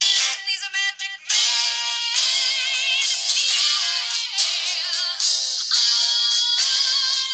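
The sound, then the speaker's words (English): A rock song plays through a small phone speaker, tinny and thin with no bass, the dense guitar-and-vocal mix running continuously at moderate loudness with no one talking over it. “Yeah, let me play it for you on my phone.”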